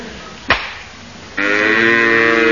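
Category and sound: animal, cow mooing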